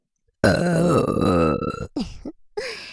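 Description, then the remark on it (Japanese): A loud burp stretches out for over a second, deep and rumbling, then breaks into a couple of shorter, ragged belches before a final brief one. “感謝のゲップいっぱいしますね。”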